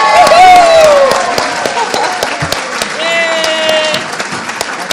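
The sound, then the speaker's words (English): An audience breaks into steady applause for the current OTC students as they stand, dense clapping with a few cheers and whistles rising over it and some voices mixed in. “The next thing I'd like the people to do, some of you will be already have stood, but I'd like the current OTC students to stand, and I want you all to clap for them.”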